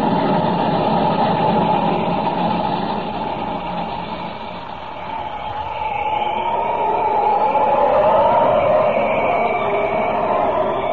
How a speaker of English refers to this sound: The train ahead. She's practically across. When the locomotive reaches the other side, the bridge supports at that end will be blown up.